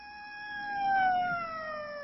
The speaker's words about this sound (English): Strange. That's like the fifth siren I've heard in the last hour. Oh, yeah. Something's going on down at the cemetery.